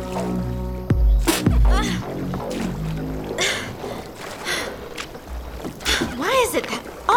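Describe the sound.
Oars dip and splash through water in an uneven rhythm as kids row a small boat without a motor in Florida on a nice day, with voices and effortful grunts mixed in.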